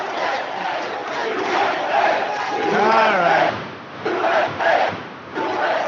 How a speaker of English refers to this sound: Somebody trying to heckle him in the crowd, and yeah, that's not working so well. No, not so much.